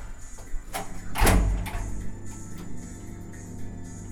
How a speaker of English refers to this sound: I was at the bottom, and in the darkness, I saw the glimmer of something metal. It was a door handle. I grabbed it and pulled.